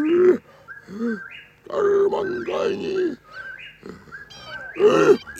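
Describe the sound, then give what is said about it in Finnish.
The ape Akut growls in a run of rough, guttural grunts, several loud voiced bursts with short pauses between them, mixed with thinner whining tones. “Miksi sinä muriset taas tuolla lailla akut?”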